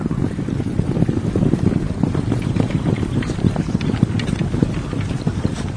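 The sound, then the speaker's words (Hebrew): Horses ridden by soldiers gallop steadily, a dense drumming of hoofbeats that continues for several seconds over a rushing, wind-like background, with no one speaking. “להיכן הם דוהרים?”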